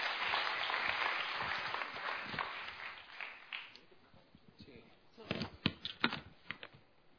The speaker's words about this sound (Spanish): Así es que vamos a darle un cariñoso aplauso.